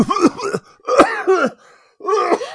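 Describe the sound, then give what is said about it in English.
A voice imitates choking on a donut in a coffee shop: three harsh, strained hacking coughs, fairly loud, with brief gaps between them and no speech. “And I was coughing. I was choking on this thing.”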